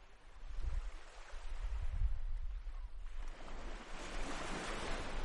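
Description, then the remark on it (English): Waves break and wash onto the beach at Kilkee, County Clare, in early April evening sunshine, in steady surges, a broad hissing roar with low rumbling thumps, then a brighter rush of surf as the water spreads out. Wind gusts across the microphone. “was in Kilkee in County Clare yesterday evening, meeting people walking on the beach and soaking up the early April heat while it lasts.”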